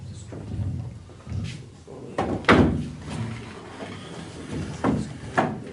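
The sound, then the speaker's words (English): A wooden chair is shifted and set down in place, chairs being positioned to build a makeshift wall, with a few sharp knocks and short scraping bumps spread over several seconds against a low background rumble. “You take another chair. Put it exactly where it needs to go.”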